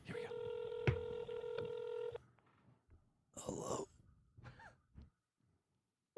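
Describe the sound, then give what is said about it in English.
Telephone keypad tones ring out steadily for about two seconds with a few sharp clicks as a number is dialed, followed by breathy gasps and quiet rustling. “We're going to get this number programmed.”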